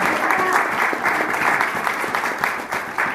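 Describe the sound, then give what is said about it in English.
An audience claps for the event's board members, steadily and loudly, a dense, continuous patter of many hands with no pauses, holding its level for the whole stretch without voices rising above it. “So please give them all a round of applause.”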